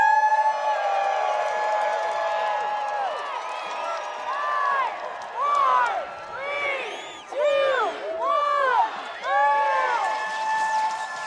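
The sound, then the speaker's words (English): A crowd cheers steadily with a dense wash of voices, rising whoops and shouts swelling in bursts toward the end, with scattered clapping underneath, at the start of the Grand Traverse Nordic ski race. “Now give a great cheer for this great Grand Traverse race!”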